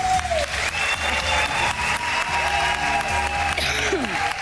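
A crowd claps steadily and loudly for several seconds, a dense wash of applause with a few faint whistles and tones riding over it.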